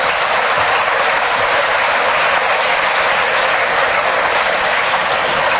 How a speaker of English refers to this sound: The Kenneth Williams fan club in the front row here are cheering like mad. And they were delighted that Kenneth was speaking when the whistle went, because he got the extra point.